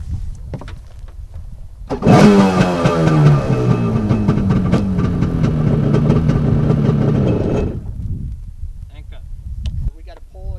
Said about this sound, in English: Then before you launch the jet ski into the water, let it run and make sure it runs smoothly.